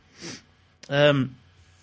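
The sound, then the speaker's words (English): A single quick, breathy nasal sniff from someone with a cold, followed a moment later by a short voiced murmur. “I've got a cold or something, so please excuse the sniffing.”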